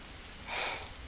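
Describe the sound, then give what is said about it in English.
Soft, steady hiss of rain falling in early spring, fairly faint, with a brief swell of louder patter in the middle of the short stretch. No voices. “Rain again, it seems.”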